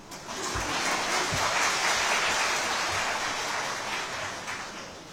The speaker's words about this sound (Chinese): 说到这里，我想问大家，你们真的为自己想过吗？真的为自己慈悲过自己吗？如果有，请给自己鼓掌吧。